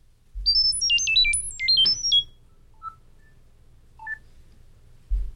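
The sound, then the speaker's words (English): A rapid two-second burst of robotic electronic chirps from the Chirp app on iOS devices, transmitting data and hopping quickly between high pitched tones like coded data, followed by a couple of faint short bleeps over a low hum. “It went from Greece to California to Massachusetts in a matter of seconds, thanks to the R2-D2 Chirp.”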